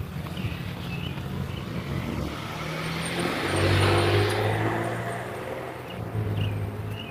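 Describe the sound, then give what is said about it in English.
Two cars pass through the busiest intersection in town on a morning: steady road noise and low engine hum, with one vehicle swelling louder as it goes by midway before fading back into the traffic rumble. “Two cars at the busiest intersection in town.”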